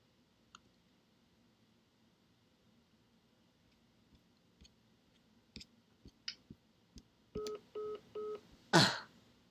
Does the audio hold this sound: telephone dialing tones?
yes